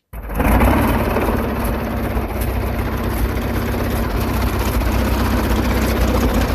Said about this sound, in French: On est en 1950, on est dans un avion.